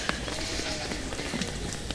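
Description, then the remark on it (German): A goat in an animal enclosure rubs its belly against a fence, setting off a steady, noisy rattle with scattered sharper clanks over about two seconds, no voices present. “Hört ihr das scheppern gerade? Das war eine der Ziegen, die ihren Bauch am Zaun gerieben hat”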